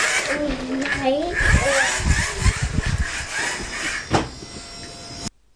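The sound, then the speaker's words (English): A train rumbles past with steady clattering and a broad rushing roar that cuts off abruptly, while a child's voice and other voices sound over it. “Oh, bye-bye, train.”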